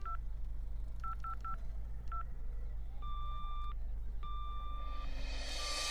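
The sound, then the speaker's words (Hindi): Telephone keypad dialing tones as someone dials to try a call: several short, clear beeps tapped in an irregular rhythm, then a few longer steady tones, over a constant low background hum with no talking. “अच्छा, तो फिर मैं एक बार ट्राई करता हूँ और आपको वापस कॉल करता हूँ।”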